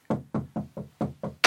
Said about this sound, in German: Klopft da wer an der Hintertür?